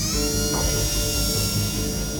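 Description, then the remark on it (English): A steady, high-pitched dentist drill whine grinds on without a break, loud, with a low rumbling undertone beneath it and no voices. “For others, it's like a dentist drill, always grinding away in the background.”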